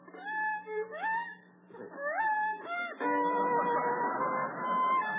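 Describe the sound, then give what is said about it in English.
A screechy violin plays alone, with shaky upward slides between notes before settling into longer wavering, scratchy tones that carry on steadily to the end. “Holy smoke, to think a cat had to die for this.”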